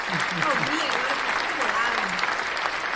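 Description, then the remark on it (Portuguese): A crowd applauds in a dense, steady burst of clapping that holds at an even loudness throughout, with a few voices faintly audible beneath it. “Então, vai uma salva de palmas de novo.”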